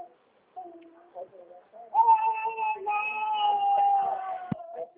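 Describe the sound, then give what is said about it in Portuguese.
A child cries in a drawn-out, wavering wail, starting as soft whimpers and then swelling into a louder, sustained cry, with a brief sharp knock near the end. “Já tá vendo aqui, tem uma criança, tá chorando.”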